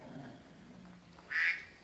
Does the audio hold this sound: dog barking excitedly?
no